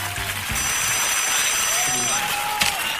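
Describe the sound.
A WhatsApp call ringing tone sounds through steady background noise, its thin high electronic tones holding for a couple of seconds while muffled voices murmur.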